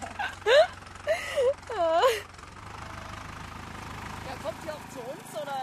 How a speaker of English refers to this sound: the tractor is just about finished with the field.